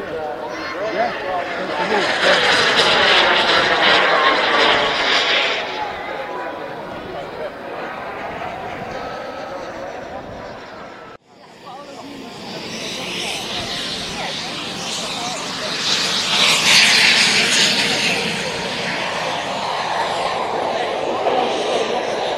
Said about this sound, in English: You can see these are model aircraft. They fly just like proper planes.